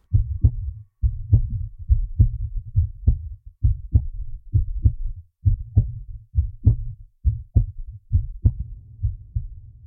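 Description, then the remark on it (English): An enhanced heartbeat recording: a strong heartbeat thumps steadily in a low, boomy rhythm, each beat a paired lub-dub pulse repeating roughly every second with a slight wash between beats, no voices present. “heartbeat-enhanced no-hiss.wave.”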